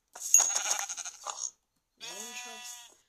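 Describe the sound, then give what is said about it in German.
Two sheep bleats, fairly loud: a rough, buzzy cry lasting over a second, then after a short pause a second, more nasal, quavering bleat. “Das ist noch ein Schaf.”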